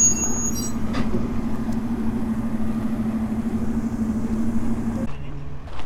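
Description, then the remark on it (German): An old Unimog truck carrying wood drives around among old railway vehicles, its engine droning steadily, a low, rumbling hum that holds for several seconds before suddenly dropping away near the end. “Da fährt so ein Hanomag mit Holz rum.”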